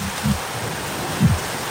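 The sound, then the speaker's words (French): A steady roar of wind and rain fills the air, with low gusty thumps buffeting, as a storm rages around a sailing boat at sea. “Non, mais en vrai, là, quand ça se déclare comme ça, dis-nous, là, parce que c'est vrai qu'on entend la tempête derrière toi.”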